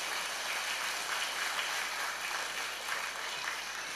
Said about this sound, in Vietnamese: Ở đây đó có cháu nào mới lần đầu tiên có mặt ở chùa Giác Ngộ giơ tay lên? Gần như là đại đa số à. Cho một tràng vỗ tay thật lớn nào.